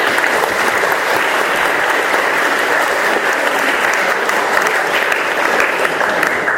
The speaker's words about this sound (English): Please, a warm round of applause.